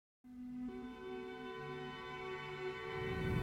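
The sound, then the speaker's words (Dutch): Sirens sound outside, a steady harmonic wail stepping between two pitches, continuous and gradually growing louder toward the end, with no talking over it. The sirens are heard from a car driving through a village, and they turn left. “Ik hoor nou trouwens ook sirenes, hoor je dat?”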